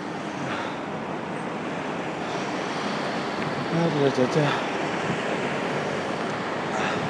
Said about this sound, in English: I mean, it doesn't appear to be traffic in front. I can hear lots to the left. Doesn't appear to be traffic turning across.